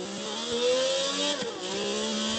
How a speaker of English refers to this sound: we're right here just before the bus stop here, as we're going to go ahead and give it a little bit of a rev, see what Japanese dreams are made of, along with Grand Prix dreams at Spa. Let's give it a launching start. Here we go.